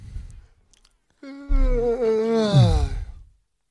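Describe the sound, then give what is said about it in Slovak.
A person lets out one long, drawn-out yawn, voiced and groaning, with a wavering pitch that trails off into a breathy exhale. It is fairly loud, with no talking. “Jakože máme taky, tu máme taky úvod, že zíváš?”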